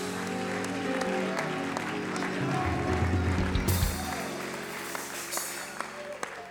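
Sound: audience clapping hands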